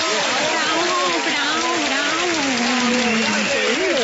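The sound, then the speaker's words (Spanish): An audience claps steadily for the mayor's announcement, dense clapping filling the whole stretch at an even loudness, with a voice speaking over the applause throughout. “¡Fuerte el aplauso!”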